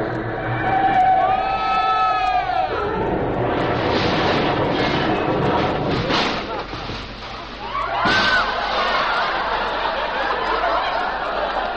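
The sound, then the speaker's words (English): A train approaches with a rising, wailing whistle, then a loud, steady rumble and roar of the cars rolling by, while a crowd laughs underneath. “Clem, there's a train, I tell you.”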